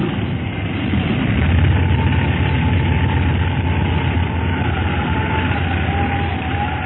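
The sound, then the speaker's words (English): A light airplane lands bumpily in a windstorm on an unfamiliar landing field, with the brakes applied hard. Its engine drones loudly and steadily over a rushing, wind-like roar, and a low hum settles in partway through. No one speaks. “Wow, that was kind of bumpy. Yes, I thought we were going to nose up for a minute there.”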